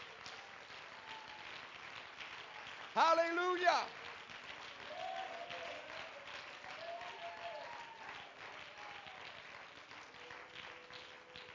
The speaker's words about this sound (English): Now give the Lord a hand clap of praise.